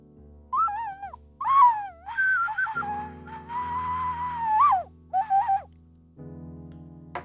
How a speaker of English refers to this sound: That's the high-pitched ocarina, not very friendly for poor old little dogs.